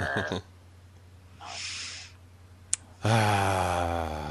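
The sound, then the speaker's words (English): A loud breath rushes into the microphone for about half a second, followed by a sharp click, and then someone starts making voiced sounds. “We got to figure out somebody was breathing too loud.”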